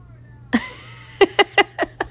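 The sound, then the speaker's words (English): A male domestic cat lets out a drawn-out meow, then a quick run of five short, chirpy meows in a steady rhythm, clear against a quiet background hum. “Oh, here's my cat again.”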